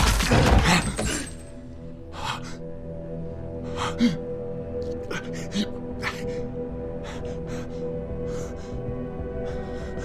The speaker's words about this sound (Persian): عجب شلیکی.